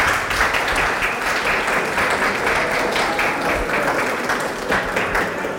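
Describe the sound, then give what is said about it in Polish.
Sustained applause from an audience for families and seniors, a dense, steady wash of many hands clapping at once, loud and even for several seconds without any talking over it. “Także teraz wielkie brawa dla rodzin, ale i wielkie brawa dla naszych seniorów.”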